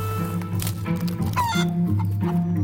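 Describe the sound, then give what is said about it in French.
Chickens clucking in a vineyard, a steady run of short, overlapping clucks over a low constant hum, with one brief rising squawk in the middle. “Là on voit des poules.”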